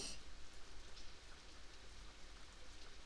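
nature, rain falling

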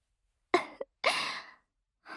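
human body sound, yawn

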